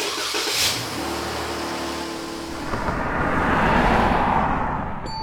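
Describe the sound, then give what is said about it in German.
A car engine turns over and settles into a low idle, then revs and pulls away, its broad roar swelling and fading as the vehicle drives off. No one speaks. “Gut, dann fahre ich schon mal einen Wagen vor.”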